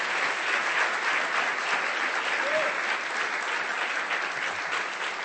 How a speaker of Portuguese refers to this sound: Come. Give them a hand. Aplaudam enquanto eles vêm.